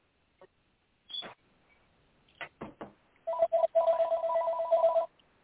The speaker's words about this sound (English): Then I got a phone ringing or something? I had to mute it. That was me.